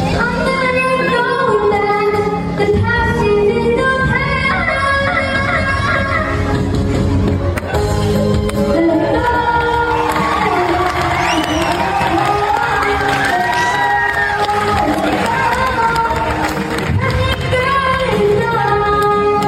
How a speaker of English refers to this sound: this is a girl who had to go to her little sister's performance, or she's singing Frozen, the Frozen song